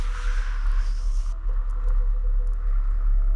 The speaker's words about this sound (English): Now, there's a low rumble, of course, the general wind and traffic sound of the city. And there's another wind sound, too, going between your building and the next one, tones.